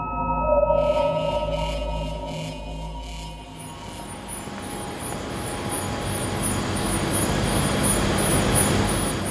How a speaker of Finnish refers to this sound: Taustalla kuuluu ääni, joka vie meidät Aalto-yliopiston nanotaloon Otaniemessä. Pumput louskuttavat. Ja heliumin avulla tehdään kylmää ja todella hyvin kylmää.